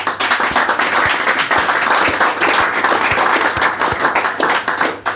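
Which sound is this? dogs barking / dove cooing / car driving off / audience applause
audience applause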